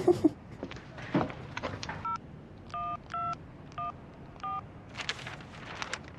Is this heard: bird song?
no